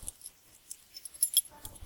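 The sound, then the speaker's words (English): Keys jangle in a few short bursts of bright metallic clinking, with the busiest rattle near the end of the moment and quiet gaps in between. No one speaks. “These fucking keys!”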